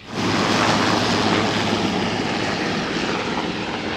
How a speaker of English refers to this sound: The Jones family taking off in the helicopter. They landed here on Little Rabbit Island. They're now flying away from Craig Island.